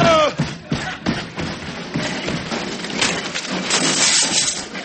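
A loud, drawn-out crash as a man is thrown down the stairs: a tumbling run of heavy thuds, splintering wood and rattling clatter, with a brief voice cry at the start.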